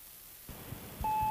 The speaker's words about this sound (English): Okay, so we'll move on to this next little found sound, and off another answering machine goes.